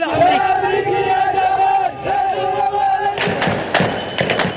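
A large crowd chants in unison with sustained, droning voices, then breaks into loud, ragged shouting and sharp bursts of noise.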